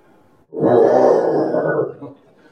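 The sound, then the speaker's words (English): A man imitates a lion's roar with one loud, rough, growling vocal burst lasting about a second and a half, low and gravelly, then it cuts off into quiet. “You ever hear lions roar? I can't do it just”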